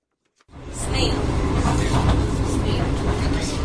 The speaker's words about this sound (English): VOA hopped aboard for the train's first journey